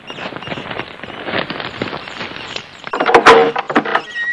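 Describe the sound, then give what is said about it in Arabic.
A door is opened, with a stretch of rattling, scraping noise building to a few sharp, loud clunks near the end. No one speaks. “افتح الباب رحمك الله.”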